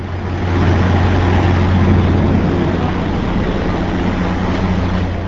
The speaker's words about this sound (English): That's the diesel engine underneath the Colorado rail car, which combines railroad engine and passenger car in the same vehicle.